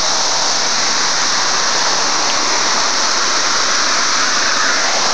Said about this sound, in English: This is just an overpowering sound out here. I mean, we're on the main drag, we're hearing traffic, and yet the sound of the cicadas is over all.